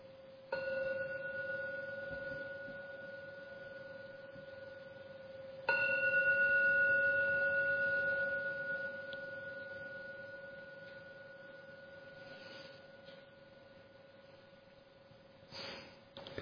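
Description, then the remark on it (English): A meditation gong is struck three times to end a meditation, each strike a bright onset followed by a long, steady ringing tone that slowly fades. There is no talking. “I will now ring the gong 3 times to end the meditation.”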